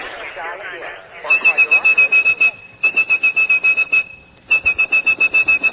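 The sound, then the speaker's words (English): A steady, high-pitched tone, whistled to trigger telephone network switches and place a call, sounds in three sustained stretches, each with a fast pulsing flutter, over a continuous bed of indistinct talking voices. “If you had perfect pitch like …, you could whistle calls through the network.”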